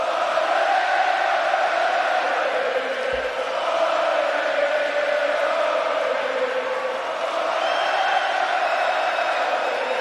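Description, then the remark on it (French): A big hockey arena crowd roars and cheers in a steady, loud wall of sound for the whole stretch, with shouts and whoops blending into the constant din, during a 6-2 Montreal Canadiens (CH) victory. “Hey, la foule est en délai. Victoire du CH 6-2 hier.”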